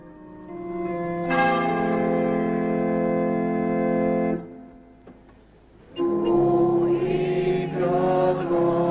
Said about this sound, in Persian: او با صدای ناقوس کلیسا از خواب بیدار می شود. کمی دورتر چشمش به کلیسای کوچکی می افتد.